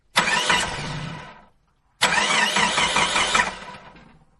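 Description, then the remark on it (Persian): An old family car's engine cranks and sputters in two separate attempts to start in an alley, each a harsh, rattling burst lasting over a second before dying away. Loud, with no voices. “ماشین ما کهنه شده. وقتی یه حدود میکنه هوای خوب کوچه رو اینجوری نابود میکنه.”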